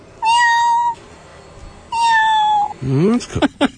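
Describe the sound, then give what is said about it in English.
A person imitates a cat's relaxed meow, the call she makes when she just wants to chill: two long, steady, drawn-out mews, then a few shorter, wavering vocal sounds, fairly loud with nothing else behind them. “And this is when she just wants to chill.”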